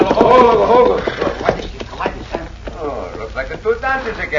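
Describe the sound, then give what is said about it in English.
Horses' hooves clip-clop steadily and loudly as riders approach, in a quick uneven rhythm of sharp knocks, with voices murmuring faintly behind them. “Get down off them horses.”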